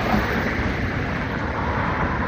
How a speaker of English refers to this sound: So when I walk across the street, there's a lot of noise.